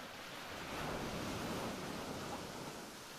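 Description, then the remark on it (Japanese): Soft, continuous ocean surf, a broad hiss that gently swells in the middle and eases off again, with no voices present. “体が波でゆらゆら揺れるのがゆりかごみたいに感じる。”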